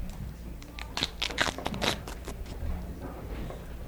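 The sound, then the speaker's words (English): Papery, dry skin, a little wet in places, tears and crackles as it is peeled, a cluster of sharp, dry crunching snaps in the first couple of seconds, then thinning to a faint rustle with no voices. “It's tearing just like paper.”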